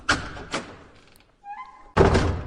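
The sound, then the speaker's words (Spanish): A heavy door leading into the interior of a World War II transport aircraft thuds shut twice in quick succession. A soft two-tone chime follows, then a loud, steady rushing hum kicks in abruptly. “Puerta, viajamos sí, en el tiempo.”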